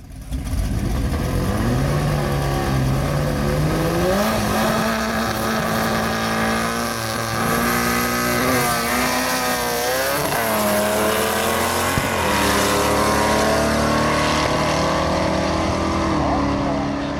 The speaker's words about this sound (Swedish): att du kan rikta kärlek då till den här delen utav den så rika motorsporten som alltså heter drag racing.